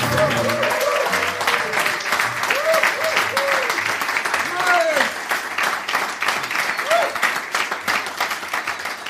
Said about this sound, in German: Und erstmal, lass mal einen fetten Applaus.